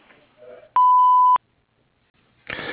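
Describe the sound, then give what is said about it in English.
A single loud, steady electronic tone sounds for about half a second, the kind of beep that signals a voicemail recording has started, followed by a brief pause before a voice begins. “Please leave your name, number, and a brief message after the beep, and I'll get back to you as soon as I can.”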